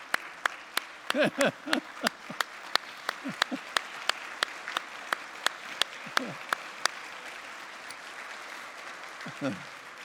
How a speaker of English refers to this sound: I was notified earlier today that somewhere back in this area, there's a couple who are today celebrating their 63rd wedding anniversary. If they'll stand, we'll give them an applause.